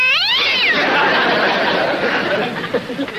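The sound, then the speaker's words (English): A cat lets out a loud, wavering yowl that rises and then bends downward, quickly swallowed by a noisy, bustling wash of sound with faint chatter beneath. “That cat must know something. They pal around with witches, you know.”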